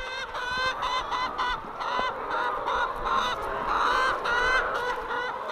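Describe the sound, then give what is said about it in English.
A flock of hens clucking and squawking together as they wait to go to pasture, a dense, continuous chorus of overlapping calls, with no voices. “that was Kylie Magner and her patient flock of hens waiting to go to pasture”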